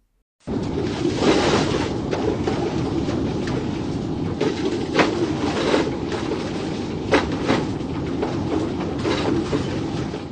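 Steady loud rumble of a large motorhome driving over rough road, with repeated sharp clattering and rattling bursts at irregular intervals throughout. No voices.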